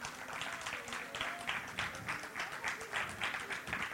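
A crowd claps together in a steady, even rhythm, the dense applause pulsing at a moderate volume throughout with no one speaking.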